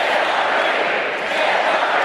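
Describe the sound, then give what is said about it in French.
A large crowd at the Democratic convention in Philadelphia roars and cheers as Hillary Clinton speaks, a dense, steady wash of many voices at full volume throughout, with no single speaker standing out. “Devant une foule qui ne demande qu'à s'embraser, Hillary Clinton se présente comme l'antidote au poison Donald Trump, à une candidature qu'elle qualifie de sans espoir et sans contenu.”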